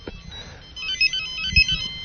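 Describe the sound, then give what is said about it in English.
A cell phone ringtone plays a bright, repeating electronic melody with short chirping tones, steady, with some low background rumble and handling noise underneath. “Guys, I can't believe I'm the one that's gotten my ringers on the air faster.”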